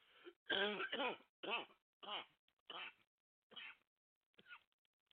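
cough

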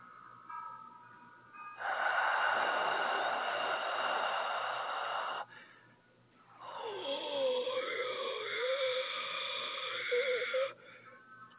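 heavy breathing

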